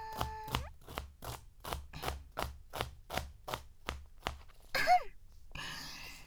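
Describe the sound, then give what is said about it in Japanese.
A knife chops steadily through crisp celery stalks, cut into the strings and worked from one end, about a dozen sharp, crunchy cuts in an even rhythm, followed by a brief rustle and scrape at the end. “筋に包丁を入れて、端からトントントン。”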